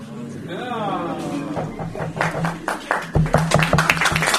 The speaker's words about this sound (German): Ja. Wir nehmen den Applaus an dieser Stelle gerne an, waren aber nicht die Erfinderinnen dieses Prinzips.